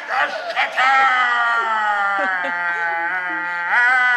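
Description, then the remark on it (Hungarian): A father lets out a long, loud, sustained roar in imitation of a lion, one drawn-out voiced bellow lasting several seconds, strained, rising again near the end. “Ki az az idióta, aki így üvölt?”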